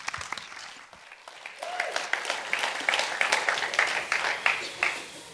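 An audience breaks into applause to welcome a speaker, starting with a few scattered claps and swelling into steady, dense clapping that holds through to the end, with faint voices mixed in.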